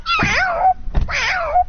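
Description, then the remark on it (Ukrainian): A tall grey-haired man on a street imitates a cat for a group of children gathered around him, giving two drawn-out, loud meows with a short pause and a faint thump between them. “А котик как?”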